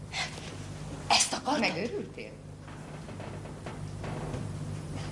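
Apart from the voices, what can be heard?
sneeze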